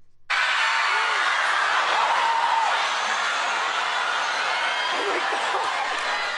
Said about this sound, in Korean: 진행자께서 이게 무슨 소리인지 아시겠어요? 네, 뭐 함성 소리인데요. 물건을 사려고 매장 안으로 들어가는 소리인가요? 네, 바로 맞습니다.